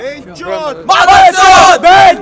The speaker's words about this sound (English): Could I get one last great metal cheer?